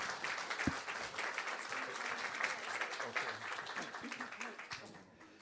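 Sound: audience applause welcoming guests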